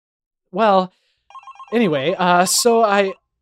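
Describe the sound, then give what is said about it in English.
A voice imitates a ringing telephone in a few short, sing-song bursts, with a faint electronic trill between them. The imitation is fairly loud, with no other sound around it. “Oh God, the phone.”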